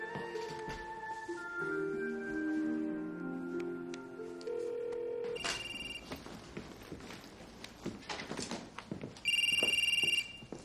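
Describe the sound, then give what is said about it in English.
A single loud, steady ringing tone of an outgoing phone call, a woman calling her mother from a cabin, sounds near the end, after a stretch of soft tonal music and some light movement noises. “She calls her mom.”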